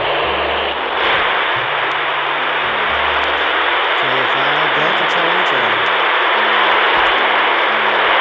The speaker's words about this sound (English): The first 3 minutes were just nothing but static, so I cut them off to make this a little bit more enjoyable. It took almost halfway before I started hearing anything.